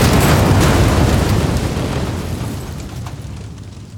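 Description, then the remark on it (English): A muffled, deep explosion booms at once and then rumbles away slowly over a few seconds, dull and heavy as if smothered, with no voices. “They seem more like a controlled explosion or one handled by a robot with a thick blanket, like this guy.”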